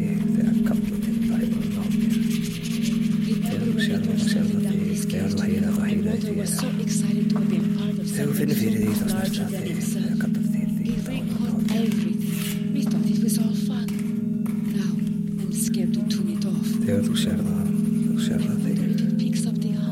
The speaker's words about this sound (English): I'm going to take a pencil rubbing of some of these markings.